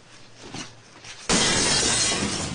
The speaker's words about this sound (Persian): نمیتونین همینطوری بزنین شیشه رو بشکنی؟ اگه اتفاقی بیفته چی؟